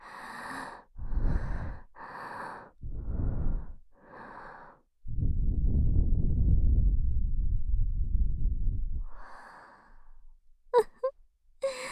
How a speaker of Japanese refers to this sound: 良さそう。私の吐息の味を感じて。